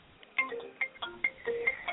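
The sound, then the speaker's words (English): A telephone ringing as a soft, steady run of four short electronic tones, evenly spaced about half a second apart, with faint lower notes between them and no voices. “Hold on, the phone is ringing.”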